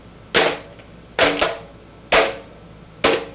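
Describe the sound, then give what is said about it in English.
A chocolate-filled mold is dropped onto a tray four times at steady intervals to knock air bubbles out of the chocolate, each drop a sharp, loud clack with a brief rattling tail and quiet between hits. “Yeah, dropping it onto the tray so that we get as many bubbles out as we can.”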